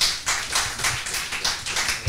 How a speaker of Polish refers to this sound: Klaski.